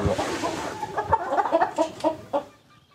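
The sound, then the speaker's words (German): A crowd of hens in a henhouse at the Domäne Dahlem farm cluck and squawk in agitated, overlapping bursts, fairly loud, upset at people entering the henhouse, with a dense background of more birds fussing. “Und jetzt regen die sich gerade tierisch auf, dass wir hier drin sind.”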